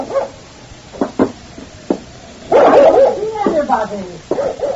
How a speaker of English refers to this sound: There's nobody here in the barn. Well, then what's Forty barking for?